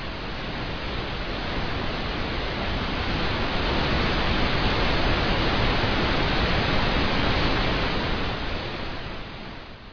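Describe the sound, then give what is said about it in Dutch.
A continuous, full rushing roar of a gust of wind, swelling gently through the middle and tapering off at the end, with no voices. “Maar dan hoor je dus een windvlaag.”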